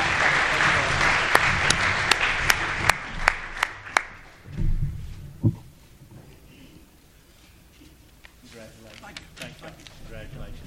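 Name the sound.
round of applause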